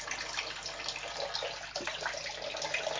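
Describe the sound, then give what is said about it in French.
Water runs steadily from a tap in a continuous splashing hiss, moderately loud, with no one speaking for the whole stretch. “Arrête ton robinet, le bouillonnier, si tu viens manger.”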